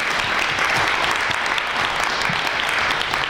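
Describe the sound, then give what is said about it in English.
Sustained audience applause for the people at the Black Box, a dense steady wash of many hands clapping at an even, fairly loud level throughout, with no voices standing out. “So a big round of applause to the Black Box.”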